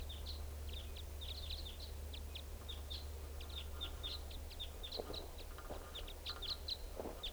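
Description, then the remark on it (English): Type 5 bird flight calls: a busy series of short, sharp chip notes repeating steadily throughout, over a low outdoor rumble with no talking, from two birds in lodgepole pines. “Type 5 birds are up in this lodgepole, but I don't see them.”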